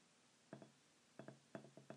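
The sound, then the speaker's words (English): A beer bottle taps and clinks against a drinking glass several times in quick, uneven pairs as it is rested on the glass while pouring, fairly light, with no one talking. “As you can tell, as I rested the bottle on the glass like that.”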